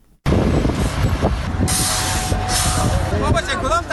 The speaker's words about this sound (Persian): اینجا ماشین های غول‌پیکر در حال کار هستند. چهره مرکز شهر چاریکار در حال تغییر است.